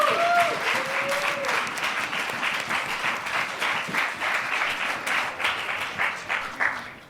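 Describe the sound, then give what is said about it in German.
Loud, sustained applause from the audience of a talk panel, dense rapid clapping filling the whole clip, with a brief whistle-like tone near the start and the clapping tapering off at the end. “Und ich glaube, das ist der Moment, wo wir vielleicht einen tosenden Applaus von unserem geschätzten Publikum bekommen.”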